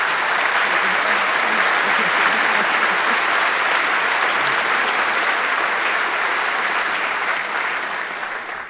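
A crowd breaks into sustained applause, a dense, steady wash of many hands clapping at once that holds loud throughout before thinning slightly at the very end.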